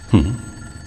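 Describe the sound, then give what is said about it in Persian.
One short telephone ring at Wayne Manor, a call for Master Bruce from Dr. March, sounds fairly loud, a quick trilling burst that cuts off after a fraction of a second, leaving faint background hum. “تماس برای ارباب بروس از طرف دکتر مارچ.”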